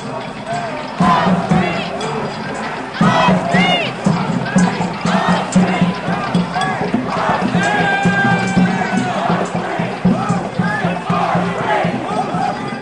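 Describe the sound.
A large crowd of protesters shouts and yells in loud, chaotic overlapping voices outdoors in a park as police chase them and fire pepper spray, with agitated cries rising and falling continuously after a brief quieter opening.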